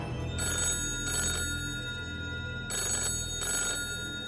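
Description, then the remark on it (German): A telephone rings in two double bursts, each a pair of short electronic trills separated by a pause, clear over a low steady hum, with no voices. “Bei Barbara Wagner klingelte das Telefon.”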